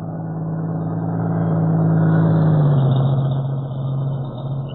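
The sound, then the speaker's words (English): A truck comes down the highway from the direction of Maywood, its engine rumbling steadily, the low droning note swelling in loudness and dipping slightly in pitch as it rolls past. No voices. “A truck coming down, Mr.”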